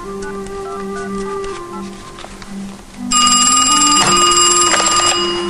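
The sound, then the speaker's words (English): A cordless phone is dialed, giving off steady electronic tones that shift partway through. Then a loud, bright, bell-like ringing takes over for the last couple of seconds. No one speaks. “Zeb looks at the cordless and dials.”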